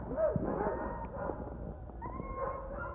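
A pack of sled dogs yips, whines and barks all at once in an excited, overlapping chorus as the dogs are placed in their team positions, with high whimpers rising above a constant rough din.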